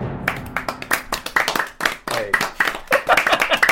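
applause

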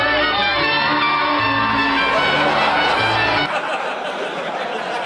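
wrestling arena crowd cheering

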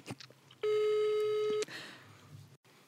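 telephone call tone

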